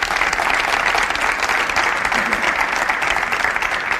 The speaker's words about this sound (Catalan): Saludem-lo amb un fort aplaudiment.